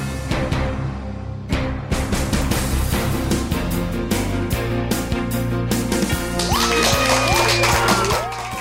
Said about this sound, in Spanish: Con esa energía positiva y esos aplausos, como cada día damos inicio a este episodio número 133 del programa Te Invito a un Café.